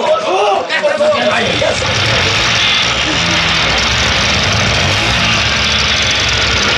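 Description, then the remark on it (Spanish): Loud car engines burst into a roar amid smoke and keep rumbling steadily, a dense, heavy mechanical noise filling the whole stretch, with a brief voice-like cry near the start. “Humo y estallido de motores accionados por la fabulosa RM.”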